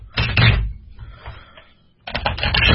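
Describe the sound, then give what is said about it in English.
Two crisp bursts of rapid flapping clicks from a deck of cards being riffle-shuffled, the deck split in half and each half shuffled separately, separated by a brief quieter pause with softer handling noise. “I do tend to split the deck in half, shuffle half of it, then shuffle the other half, then split those decks and shuffle those separately as well, just to get a good mix.”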